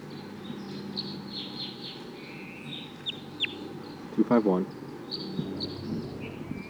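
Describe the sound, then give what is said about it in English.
Thin, high-pitched calls and chirps of a wild bird coming down repeat throughout over a low background rumble, with one louder, harsher burst of calling near the middle. “That wild bird is coming down now.”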